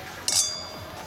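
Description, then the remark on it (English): Wine glasses clink together once in a bright toast between two people on a date, and the high glassy ring fades slowly over the next second against a quiet background. “Well, cheers to finding someone you vibe with. Cheers.”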